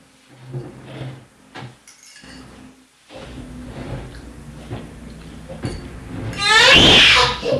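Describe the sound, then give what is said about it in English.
A heavy chair is shoved and dragged in fits and starts, with low knocks and rough scraping, ending in one loud, grinding screech across the floor. “I admit that chair is too heavy for you to move, but what are you trying to do with it?”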